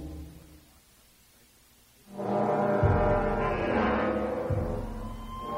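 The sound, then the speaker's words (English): After a quiet low rumble, a loud, deep blaring alarm kicks in abruptly through a biotics building and its docking bays and holds steady, its harmonic tone droning on with slight wavering pitch. “The alarm cut through the biotics building, the temporary docking bays built outside it, the kill zone surrounding it.”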